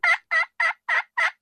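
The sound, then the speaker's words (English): Five evenly spaced, raspy yelps from a pot call played with a diamond wood striker mimic a hen turkey. The notes are fairly loud, sounding alone with short gaps and no talking. “Those calls start with basically a yelp.”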